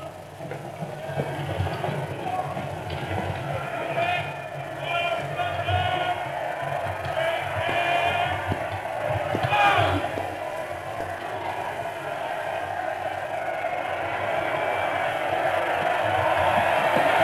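A large street crowd at Temple Bar cheers and shouts as the King and Queen arrive, in a continuous, steady roar, many voices blending together with occasional louder swells and no single speaker standing out.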